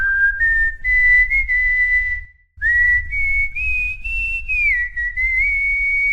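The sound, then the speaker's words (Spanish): A person whistles a simple tune on 27 July, the Day of Whistling: clear sustained notes sliding between pitches in two phrases separated by a brief pause, with a low rumble underneath and no talking. “Hoy es 27 de julio, feriado para muchos y además día del silbido.”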